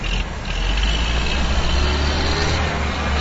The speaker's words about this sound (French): Décompacteurs, camions chargeurs, niveleuses et d'autres engins déployés au stade du 15 octobre de Beni pour le début de ces travaux étaient visibles sur l'aire des jeux du stade du 15 octobre de Beni ce samedi sous les yeux d'une foule nombreuse